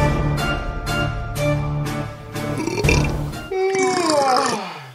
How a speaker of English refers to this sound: I belched.